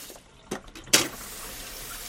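A daughter washes dishes at the sink in her family's home: two brief clinks of crockery, then a steady hiss of running tap water that continues to the end. No voices.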